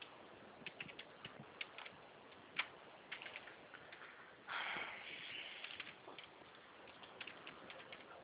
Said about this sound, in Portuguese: É que lá fora tá chovendo.